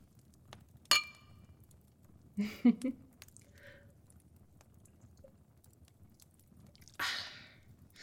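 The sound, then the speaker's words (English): A single bright clink of glasses rings out near the start, followed by soft sipping and swallowing sounds and a brief rustle later, with no talking. “Cheers. To your victory.”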